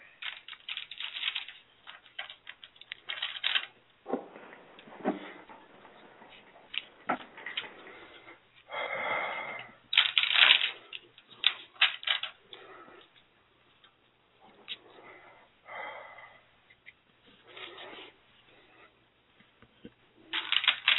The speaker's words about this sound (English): Well, let's see. Let me know when to stop shuffling.